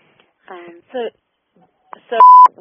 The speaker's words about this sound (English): if you hear that little beep, Anita, that's the clue